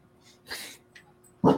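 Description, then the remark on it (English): A yard dog sniffs and snuffles in a few short, breathy bursts, ending with a louder, lower huff; no one is talking. “Why, it's a dog.”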